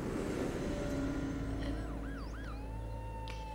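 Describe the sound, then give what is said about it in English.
An ambulance siren wails in rising and falling sweeps outside a window, coming in partway through and growing clearer over a steady low rumble as it approaches. “Sending for an ambulance when someone is already half dead?”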